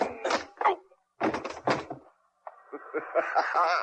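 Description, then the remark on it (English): A flurry of heavy blows lands in two quick bursts, thudding punches in a scuffle knocking a man out, followed by a man's strained groaning vocalizations as the fight ends. “Thanks for knocking out”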